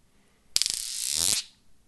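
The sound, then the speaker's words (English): Magnetic spheres buzzing after being thrown up in the air: a sharp click sets off a rapid, ratchet-like rattle of snapping clicks that blurs into a bright, harsh buzz for almost a second before cutting off. “You throw them in the air and they make a buzzing noise.”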